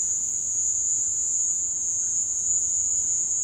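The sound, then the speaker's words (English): A steady, high-pitched cricket trill from cricket recordings played over a loudspeaker inside a room to capture the echoes runs unbroken through the whole clip, fairly loud and echoing, with no voices. “Fernando took some recordings that he had of crickets and played them over a loudspeaker inside a room so he could capture the echoes.”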